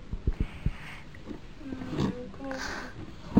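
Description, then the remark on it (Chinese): A toy bear gives out a growling, roaring sound, rough and rising over a few seconds, with children's voices chattering around it. “那是快皮熊啊！”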